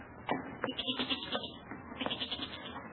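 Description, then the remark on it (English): A restless goat bleats from a cellar in a few wavering, nasal cries, fairly loud, with short pauses between calls and no one speaking. “That's the goat. He's getting restless down in the cellar.”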